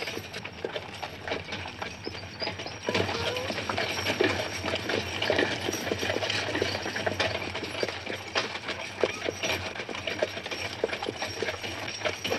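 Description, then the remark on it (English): Horse hooves clip-clop at a steady walking pace, fairly loud, with a continuous rattling, mechanical rumble underneath, growing fuller after the first few seconds. “Why horses? Because they're slow.”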